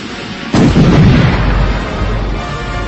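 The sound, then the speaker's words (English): A single sharp explosive blast of a charge blowing, its shockwave propelling a spaceship through a breach in doors, erupts after a brief quiet stretch, followed by a heavy, rumbling low roar that lingers and slowly fades without dying out. “The charge blew, and the shockwave propelled the Sokotan ship through the breach in the doors.”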